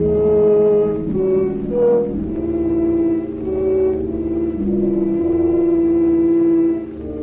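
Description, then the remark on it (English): A car engine hums steadily, its drone rising and falling slightly in pitch as the vehicle keeps moving, with no voices over it. “Stop the car.”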